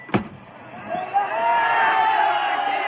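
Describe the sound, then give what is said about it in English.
A large crowd of students gathered early in the morning to greet a returning team's train swells into sustained cheering and shouting after a sharp thud at the start, the mass of voices building and holding steady. “Look at that crowd. It's the whole student body.”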